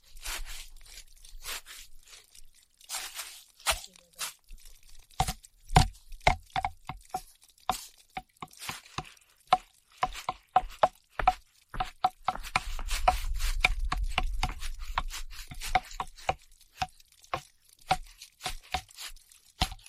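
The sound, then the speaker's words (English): Sharp wooden knocks tapped out on wood played like an instrument in a quick, uneven rhythm, each hit ringing with a short hollow tone, fairly loud, with a brief low rumble partway through and no talking. “That wood makes a really nice instrument.”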